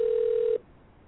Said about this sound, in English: Telephone ineptitude. Yeah. Get the preliminaries. Just pick up the phone already.